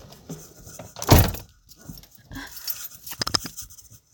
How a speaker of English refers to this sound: Okay, now I'm climbing into my car.